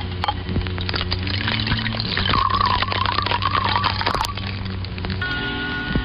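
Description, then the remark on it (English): Scotch splashes and gurgles into a glass in one steady pour lasting a couple of seconds, over a busy background with faint clinks and rustling. “Miles pours himself another scotch.”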